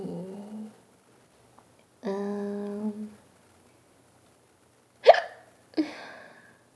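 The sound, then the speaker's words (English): Two sharp, abrupt hiccups, less than a second apart, come after a couple of longer, steady voiced sounds and a quiet pause. “I told you, random hiccups all the time.”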